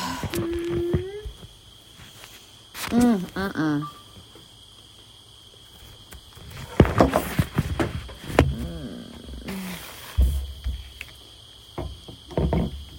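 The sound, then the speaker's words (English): A steady, high-pitched drone of crickets chirping at sunset in Abbeville, Georgia, runs continuously throughout, with occasional brief voices and a few knocks and rustles. “Oh, listen to those crickets.”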